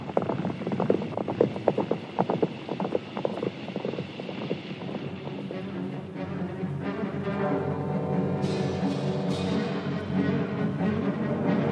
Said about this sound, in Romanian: Hai, sui aici pe mâna mea și să pornim. Repede, pe cai, galop.